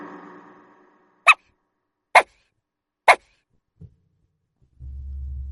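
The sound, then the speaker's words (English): A dog barks three times in short, sharp bursts, evenly spaced about a second apart, close and clear. No one speaks, and a low steady rumble starts up at the end. “D for dog.”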